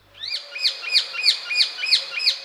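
A male rose-ringed parakeet calls in a quick series of about seven shrill, screechy notes, evenly spaced and fairly loud, with no other sounds around it.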